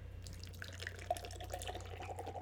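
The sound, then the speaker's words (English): Beer is surge-poured steadily from a freshly opened can into a glass, forming a large head; a soft continuous liquid rush with fizzy crackling and a faint gurgling tone. It is quiet, with a low steady hum underneath and no talking. “There's my surge pour. Can you hear it, everyone?”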